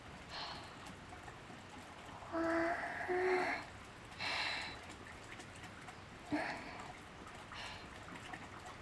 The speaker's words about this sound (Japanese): 行き先の方を向くだけで水の匂いも滝の音も少し強くなった気がする